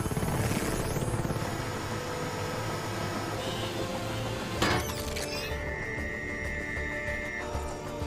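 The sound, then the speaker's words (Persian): Drones launch with a dense mechanical whir and a sharp burst partway through, then a steady high electronic tone hums over continuous rumbling noise. No one speaks. “خوبه، پهپادارو بفرست.”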